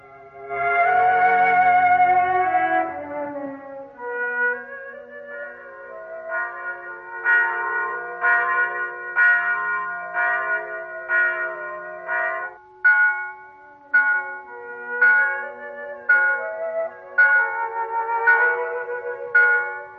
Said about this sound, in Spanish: El jueves siguiente, fiesta del Corpus Christi, celebró la misa en su pueblo. Las campanas voltearon y repicaron largo tiempo.